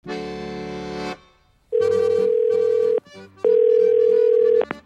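telephone call ringing tone

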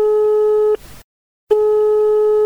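telephone line tone

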